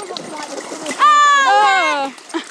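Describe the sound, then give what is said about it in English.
Dogs Jodie and Hudson splashing in and out of shallow puddle water, a soft watery sloshing interrupted midway by a loud, drawn-out, high-pitched vocal cry that slowly falls in pitch. “They're heading in and out of a puddle at the moment.”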